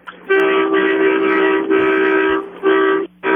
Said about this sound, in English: I've been waiting to honk my horn for you for the last couple of days. I heard you asking the other day or last week, I guess it was. Right, yes, give me a real good one here.